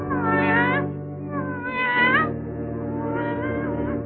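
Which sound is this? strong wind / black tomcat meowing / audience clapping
black tomcat meowing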